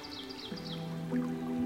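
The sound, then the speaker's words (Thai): Soft, high chirps of many kinds of birds flutter over a steady, gentle wash of a babbling stream, with a low sustained hum beneath; a calm, continuous nature ambience with no voices. “มีดนตรีธรรมชาติของนกนานาชนิดเสียงนกเสียงลำธารบรรเลงขับกล่อมให้กายใจสงบนิ่งสงบนิ่ง”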